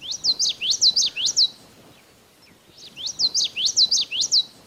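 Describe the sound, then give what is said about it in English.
A common yellowthroat sings two bursts of its rolling, rhythmic phrase, a quick series of bright, high repeated notes, with a short pause between songs and no talking. “And the common yellow throat goes with, "Witchety, witchety, witchety."”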